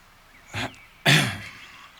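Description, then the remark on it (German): A man clears his throat heavily, a short rasp followed by a louder, longer guttural rumble, with no talking. “Nachdem er sein Sandwich aufgegessen hatte, räusperte er sich schwerfällig und blickte seinen Neffen aufrichtig an.”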